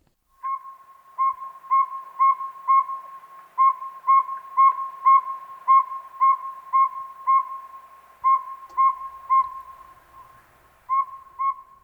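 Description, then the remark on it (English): A saw-whet owl's monotonous tooting call repeats steadily, clear whistled notes about two or three per second, with brief pauses between runs, alone with no voices. “The sound that gives this little bird its name is usually heard at night. It is supposed to resemble the sound of a saw being sharpened on a whetstone.”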